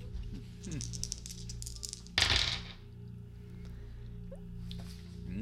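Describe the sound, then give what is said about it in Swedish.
A short rattle and clatter of dice tumbling onto a surface as players roll for a check in a game, lasting about half a second, over a low steady background hum with faint murmuring voices. “Innan dess tänker jag att när ni ändå är igång och slår tärningar så är det dags att slå fyslag.”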